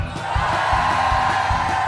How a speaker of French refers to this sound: Je veux vous entendre gueuler, les stagiaires. Vous êtes là?